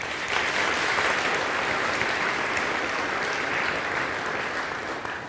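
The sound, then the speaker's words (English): A crowd breaks into sustained applause, a dense, steady wash of many hands clapping at even loudness for several seconds before easing slightly at the end. “But I think they deserve a round of applause.”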